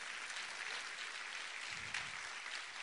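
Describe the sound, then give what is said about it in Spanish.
An audience applauds the Lord during a Spanish-language sermon, a dense, steady wash of many hands clapping that holds at an even level for about three seconds with no voices standing out. “¿Cuántos le dan un aplauso al Señor por ello?”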